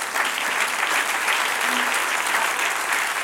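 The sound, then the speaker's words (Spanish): An audience bursts into sustained applause for the Lord, a dense, steady wash of many hands clapping at once that holds at an even loudness throughout, with no voices standing out. “Denle un aplauso al Señor ahora.”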